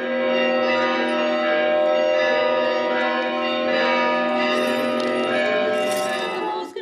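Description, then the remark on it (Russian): A festive Easter peal of church bells rings out loudly and continuously after the service during Bright Week, the week after Easter, several bells overlapping in a rich, shimmering wash of tones with no voices. “После службы всю Светлую Седмицу проводятся крестные ходы и звучит радостный пасхальный звон.”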